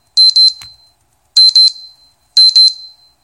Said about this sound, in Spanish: Disculpa por ese alarma.